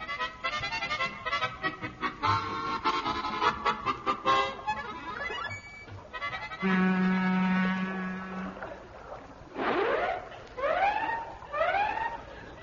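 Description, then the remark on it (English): A ship's siren gives a steady, low, droning blast lasting about two seconds, followed by several quick rising whoops. Before the blast comes a jumble of honking, tooting tones. No one speaks. “Look, every time you blast off our siren, sir, those Batani landers in Popperton toot back at us, sir.”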